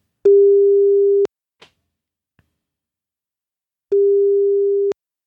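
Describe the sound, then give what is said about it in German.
Two long, steady telephone ringback tones, each about a second, separated by a few seconds of silence with a faint click between them, heard clearly with no talking, while calling back a person whose phone line dropped. “Oh, ich sehe gerade, der ist gar nicht mehr am Telefon. Müssen wir mal gerade zurückrufen.”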